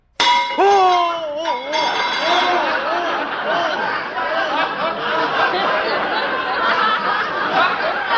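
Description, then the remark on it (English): A hammer gives a light tap to a metal rivet in a delicate mechanism, held by another person, with a sharp, ringing clang, then wavering yelps and laughter-like vocal chatter carry on steadily to the end. “Now, look, I'll hold the rivet, and you take the hammer there and give it a tap.”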